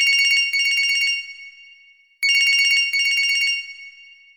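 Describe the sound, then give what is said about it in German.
A telephone rings in two loud bursts of rapid trilling, each lasting about a second, separated by a pause with a lingering ring-out. No voices are present. “Nur das Telefon verwirrt mich. Hat man im Traum Handys mit?”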